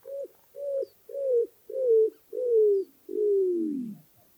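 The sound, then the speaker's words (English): A male roadrunner gives a series of six low cooing notes, each longer and slightly louder than the last, the final one drawn out and sliding downward, clear with no other sounds. “The one we hear most often is a sort of cooing, made by the male only, and it goes like this.”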